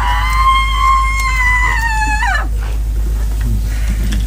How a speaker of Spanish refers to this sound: se guardaba un minuto de silencio, y esa rabia, esa ira, ese dolor se representa en el grito de esta mujer que rompía ese minuto de silencio. Creo que lo podemos escuchar.